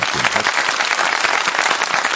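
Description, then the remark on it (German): A burst of crowd applause, many hands clapping densely and steadily at a loud, even level throughout, with no voices standing out. “Da müssen wir uns doch selbst mal auf die Schulter klopfen und ein wenig klatschen.”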